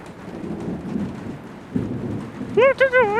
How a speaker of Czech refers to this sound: Prší, taky jsem si všiml.